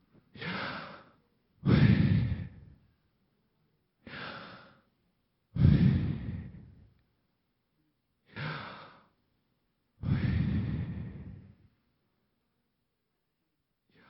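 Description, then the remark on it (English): Slow, deliberate breaths in and out, about three full cycles, each short inhale followed by a longer, heavier exhale, clear with quiet pauses between and no talking. “It's actually breathing God's name.”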